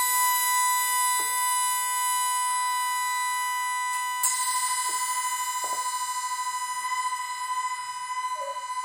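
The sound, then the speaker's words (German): Drilled aluminium rods, hung on nylon strings so they float completely free and played as a percussion instrument, ring out in a dense, bright shimmer of sustained metallic tones, with a few sharper strikes adding fresh attacks as the resonance hangs steadily throughout, with no voices. “Wir haben die Alustangen.”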